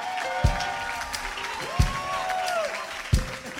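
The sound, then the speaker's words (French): A crowd claps and cheers steadily throughout in acclamation for the Lord, with a bright wash of clapping, rising whoops and a high gliding cry, while three heavy low thumps land at roughly even intervals. “Est-ce que tu peux pousser une salve d'acclamation pour le Seigneur?”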